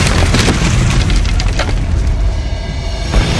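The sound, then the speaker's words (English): A loud, sustained explosion roars throughout as explosives blow apart the center of a convention center wall and the rooftop collapses, with a deep rumbling low end and crackling bursts of debris breaking apart over the top, no voices present. “Hayden Lamar watched as the center of the wall of the convention center blew apart.”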